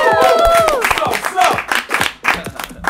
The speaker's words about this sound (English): So give a round of applause, y'all.